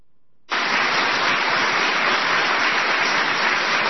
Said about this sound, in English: I'm not replaying the applause. It goes on like that.